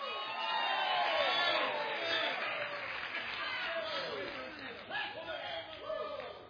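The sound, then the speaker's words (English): An audience at a religious meeting shouts and cheers together, praising God, in a dense, sustained roar, with rising whoops and calls overlapping throughout and a few louder bursts near the end. “But here you are now, all these years later, and you're still shouting and still praising God because we know we've won.”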